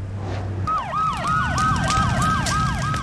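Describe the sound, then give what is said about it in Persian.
A fire engine siren speeds past a car, its rapid, repeating falling yelp cycling about twice a second over a steady tone and a low rumble of traffic. Loud throughout after a brief low hum opens. “خودروی آتش نشانی با سرعت از کنار سواری محمود عبور می‌کند.”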